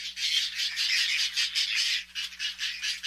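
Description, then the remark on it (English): Harsh, rasping whiskered tern calls run almost without pause, several overlapping squawks pulsing in quick succession, fairly loud, with no one speaking. “Male whiskered terns gather food for their mates, but things don't always go as planned.”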